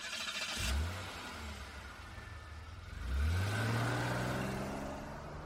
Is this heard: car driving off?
yes